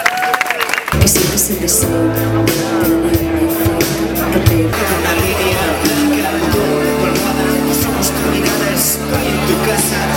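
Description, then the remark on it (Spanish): Audience applause for a group representing Windows fans rises after a brief quiet start and continues steadily, a dense wash of clapping mixed with crowd noise and sustained tones underneath. “La fe y los flores azules, un aplauso para ellos.”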